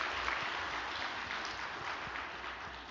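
An audience applauds in encouragement for the Cheonsim Choir after its hymn, a dense, even wash of many hands clapping at a constant level for the full three seconds, with no voices over it.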